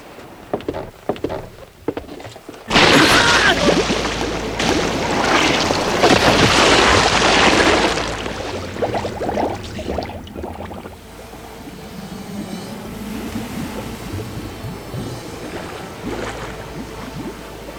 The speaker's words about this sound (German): Was ist denn das? Schwimmt da unter den Planken jemand im Wasser? Hallo? Sehr merkwürdig.